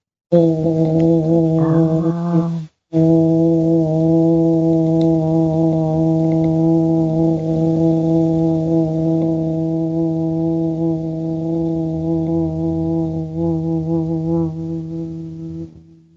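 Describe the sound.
Steady, low-pitched buzzing hum made with closed lips during the bee breath exercise, chin slightly tucked and throat relaxed, imitating a bee, held loudly for a couple of seconds, a brief break, then one long unbroken drone that fades at the end.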